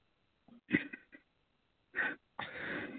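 A sneeze: a few short, sharp breathy bursts and a quick gasp build up to a loud, noisy explosive release at the end, with no talking.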